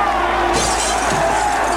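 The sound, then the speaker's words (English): A rock thrown by a boy crashes through the painted window of a soda shop with a loud, sustained shatter of breaking glass, bright crackling shards continuing for a moment after the impact, unaccompanied by speech. “Whitey throws a rock through the painted window.”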